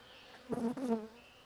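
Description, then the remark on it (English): A brief swell of honeybees buzzing inside an opened hive as the beekeeper stirs them awake, a harmonic drone that rises and falls over about half a second against a quiet background. “excited, or I can hear them now. I'm waking them up a little bit.”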